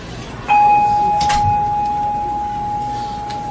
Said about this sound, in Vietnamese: Cho nên mình thỉnh tiếng chuông, mình thích chuông nè. Và tùy theo cái thế đứng, tùy theo cái dáng chuông mà phát tiếng.